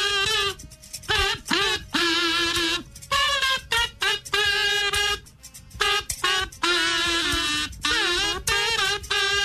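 A song melody buzzed out on kazoos, played on a radio show for callers to identify the song by title, with nasal, reedy notes in short phrases separated by brief pauses, some held tones wavering in pitch. Loud and steady, with no talking over it.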